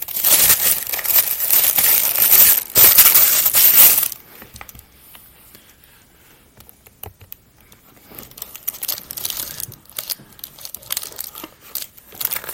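Loud rustling and crinkling of paper for a few seconds, then softer intermittent crackles and shuffling as papers and other contents of a gold cosmetics gift box with Big Lossy written on the lid are handled, with no voices.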